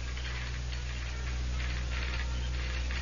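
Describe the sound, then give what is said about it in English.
Morse code from a telegraph operator in an office, heard through an open window, clicks out in quick dots and dashes, a steady run of sharp mechanical taps and short bursts over a low, constant hum. “Then, through the open window, she heard the dots and dashes of the Morse code.”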